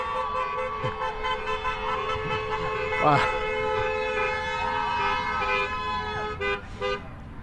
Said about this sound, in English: Just a whole bunch of cars going by.